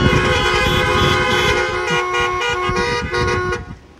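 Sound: car horns honking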